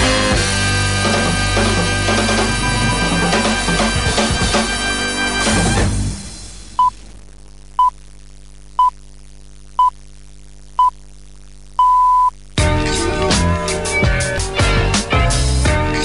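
A hip-hop track blares loudly, drops out into a string of evenly spaced high-pitched beeps over a low hum, then the full song kicks back in. No one speaks.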